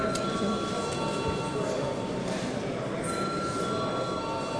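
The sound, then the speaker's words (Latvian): An electric voting bell in a parliament rings continuously for several seconds before deputies vote on a bill, a steady metallic buzzing clatter with a constant tone and no pauses. “Lūdzu zvanu.”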